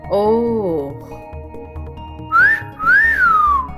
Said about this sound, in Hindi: … ने सीटी बजाने वाले अंदाज में होंठ मोड़े और सीटी बजाई